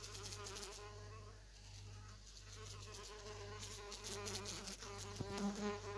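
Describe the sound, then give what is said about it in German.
A small fly buzzes steadily, a continuous droning hum with slight wavering in pitch, lasting the whole time with no talking. “Hier ist eine kleine Fliege. Mal sehen, ob ihr die hört.”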